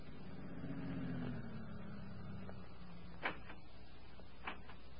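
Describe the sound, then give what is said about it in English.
A car engine rumbles and winds down as the vehicle drives up to a farm entrance and rolls to a stop, followed by two sharp clunks like car doors a second apart as two men get out, with no one speaking. “Then, 1 week later, Baker was standing at the farm entrance when two men drove up and got out of their car.”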